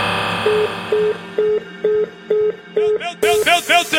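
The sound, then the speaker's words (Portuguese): A telephone rings with a steady series of short electronic beeps, about seven evenly spaced pulses, before the tone turns into a louder, warbling ring near the end, with no talking. “Meu telefone tocou”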